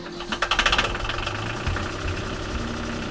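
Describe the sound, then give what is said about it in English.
A boat engine, just started after its cooling was fixed, idles with a steady, throbbing low rumble, opening with a burst of rapid mechanical knocking before settling into an even chug. No voices are heard. “But we managed to fix the engine cooling and get us cranked up.”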